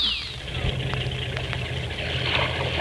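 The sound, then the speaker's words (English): A speedboat engine runs steadily across a lake, a loud low droning rumble with a rough, churning hiss above it that holds unchanged throughout, with no voices. “how about cooling off in a speedboat? All right, Betty Jane, a speedboat it is.”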